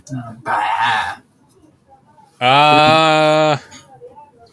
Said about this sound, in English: And then finally, a billy goat.